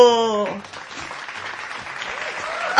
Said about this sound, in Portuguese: Aplausos para esses trabalhadores! Estão sempre disponível pra você!